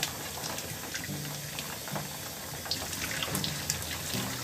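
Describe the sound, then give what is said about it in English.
Steady running water hisses and splashes without pause, a broad, even spray with occasional brighter droplet spatters and a low gurgling undertone, like a shower streaming. No one speaks. “I'm gonna have to shower, take some decent folders.”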